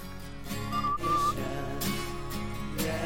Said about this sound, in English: We can play the whistling part.